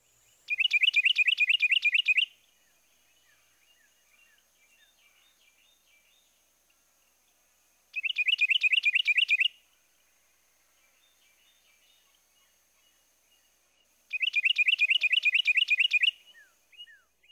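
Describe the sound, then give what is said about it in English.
A Carolina wren sings its loud, rolling two-noted song in three separate bursts, each lasting about two seconds, with quiet pauses between them and faint background chirps. “Now for a close comparison, here's a non-warbler species, the Carolina wren, with his own two-noted song.”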